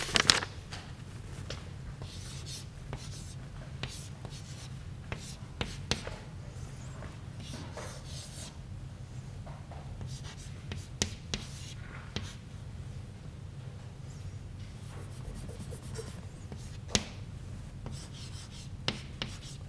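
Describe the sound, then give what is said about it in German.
Chalk scrapes and taps across a blackboard in irregular bursts of short strokes as someone derives equations, fairly quiet, over a steady low hum with no one speaking. “ich möchte jetzt mal die verschiedenen Gleichungen, die wir auf den folgenden Folien haben, ein bisschen an der Tafel herleiten, damit wir uns das Diagramm weiter anschauen können, während wir über die Gleichungen nachdenken.”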